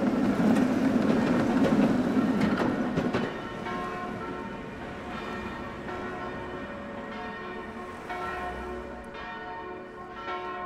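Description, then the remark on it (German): An electric tram rumbles past in a city, a loud low-pitched roar for the first few seconds, then settles into a steady whine with ringing tonal overtones as it rolls on. No one speaks. “Die Straßenbahn, vielleicht das wichtigste Geräusch, überhaupt städtische Geräusch, quasi die Sound-Signature der Stadt, das elektrische Straßenbahngeräusch.”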